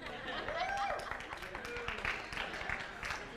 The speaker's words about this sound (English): You're going to vote by applause. Is that a real man?